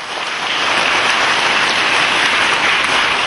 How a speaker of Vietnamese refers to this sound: Và chúng ta hãy cho một tràng pháo tay để chúc mừng thầy.